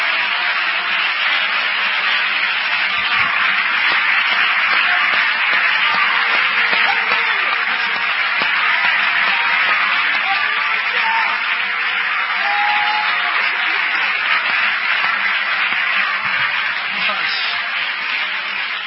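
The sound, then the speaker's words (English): An audience claps their hands together again in worship of the Lord, a loud, dense, sustained wash of applause that holds steady for nearly twenty seconds, with a murmur of voices mixed into the crowd noise. “Clap your hands again and worship the Lord.”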